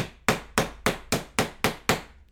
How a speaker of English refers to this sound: Hope all of you could hear that. You hear the hitting of the boards as it reverberates throughout the entire arena.